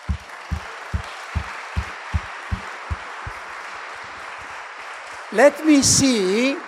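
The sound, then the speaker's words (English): A group claps hands together for Jesus in a steady, even rhythm, about three claps a second, fading out after roughly ten beats. A short pause follows, then a voice calls out briefly. “We should clap the hands, but not to me, of course, to Jesus, together.”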